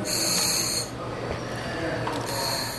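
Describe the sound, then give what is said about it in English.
Underwater breathing through a scuba regulator during a cage dive in a warm-water shark tank: two loud, hissing, bubbly breaths, one at the start and another near the end, over a steady muffled low rumble. “After my breathing settles, the guide opens the underwater cage doors wide open to improve the view.”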